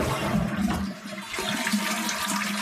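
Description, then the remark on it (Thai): A toilet flushes, a loud rushing swirl of water that surges, dips briefly, then keeps gurgling and draining steadily to the end. “นักวิจัยที่ศึกษาเรื่องละอองฟุ้งกระจายแนะว่าเราควรปิดฝาส้วมก่อนจะกดชักโครกเพราะว่าเรื่องนี้จะช่วยลดการแพร่เชื้อต่างๆได้ไม่ว่าจะเป็นเชื้อโคโรนาไวรัสสายพันธุ์ใหม่หรือเชื้ออย่างอื่นก็ตาม”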